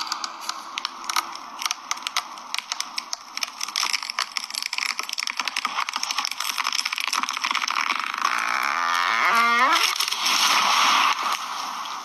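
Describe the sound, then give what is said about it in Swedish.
A tree is felled with rapid crackling and splintering wood, then a long, drawn-out groaning creak that rises in pitch and sounds strikingly like a cow mooing, fairly loud. “Han huggar ner ett träd.”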